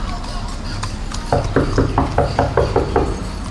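Rapid, insistent knocking on the door of a woman's home, about eight or nine firm raps in quick succession after a brief quiet moment, fairly loud, with no voices.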